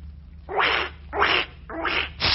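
A broken toy duck from John B. Merlin and Son quacks four times in a steady rhythm, each squawk harsh, raspy and fairly loud, with a faint low hum underneath and no talking.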